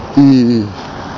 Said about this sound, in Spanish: una Peugeot, una moto Peugeot, hacía mucho que no la veía. Está la modelo de los 80, muy famosa porque era de las pequeñas de 50, pero tenía estética de coche.